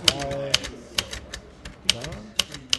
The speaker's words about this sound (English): mashed new technology with old by making a computer keyboard out of an old manual typewriter. So I'm writing you an email right now, and it's pretty much just the same as writing a regular email.